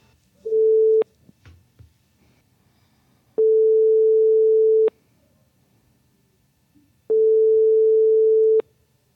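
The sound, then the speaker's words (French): A telephone ringback tone from a call placed for a phone interview: a steady, even beep repeating three times with pauses of silence in between, clear and fairly loud, with no voices. “nous allons effectuer cet entretien par téléphone. Voilà, je lance l'appel.”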